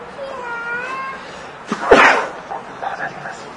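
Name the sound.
a person sneezing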